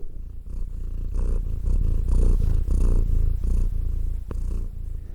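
A female domestic cat, lying among a person's notes, purrs steadily, a continuous low rumbling with a gentle pulsing rhythm of breaths in and out, with no voices present.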